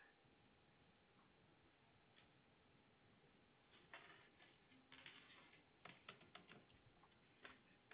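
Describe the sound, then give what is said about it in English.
A woman types on a computer keyboard during a phone call: irregular bursts of quick clicking keystrokes in short clusters against a low steady background hum, fairly quiet, with no talking. “Okay, she's typing again.”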